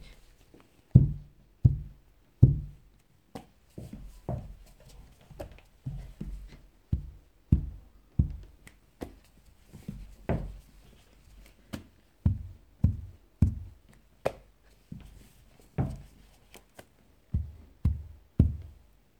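Dull, low thuds of a head knocking against a floor while kowtowing in apology to classmates in turn along the first row of a classroom, roughly two dozen in an uneven but steady succession, with no talking in between.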